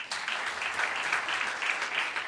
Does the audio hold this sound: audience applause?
yes